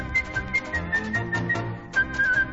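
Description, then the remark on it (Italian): A brisk rendition of Rossini's William Tell Overture whistled in quick, repeated, galloping notes over a steady instrumental accompaniment with a pulsing low beat, clear and upfront, with no talking. “Questa è la, sì, fatta però credo col fischio.”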